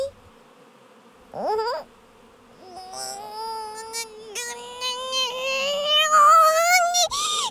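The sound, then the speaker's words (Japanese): A swarm of honeybees buzzes: a brief rising drone, a short pause, then a sustained hum that swells louder and climbs steadily in pitch before cutting off. “ハチども、ハチミツを出せと言っておるのじゃ。”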